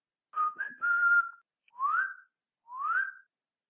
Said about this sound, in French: Puisque vous tenez à les voir, on va vous faire ce plaisir-là. Il va à la porte et siffle doucement.